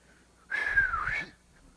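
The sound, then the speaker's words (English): A single breathy attempt at a whistle, mostly rushing air with a thin tone that dips and rises again, lasting under a second, fairly loud with no talking. “Now, I wish I could whistle. If I could, I'd go like this.”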